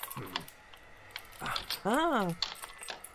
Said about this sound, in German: Das Schloss sieht echt rostig aus. Warte, versuch doch mal diesen Schlüssel.